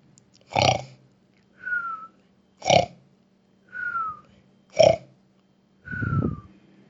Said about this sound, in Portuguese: Quando o lobo satisfez a sua vontade, deitou-se de novo na cama, adormeceu e começou a roncar muito alto.